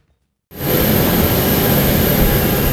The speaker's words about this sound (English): With the engine of the P-8A Poseidon roaring overhead,